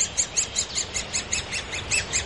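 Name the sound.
great spotted woodpecker call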